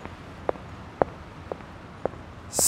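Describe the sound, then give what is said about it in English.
Five evenly spaced footsteps land about every half second, crisp over a quiet background, with a brief hiss rising at the very end. “Do you hear these footsteps?”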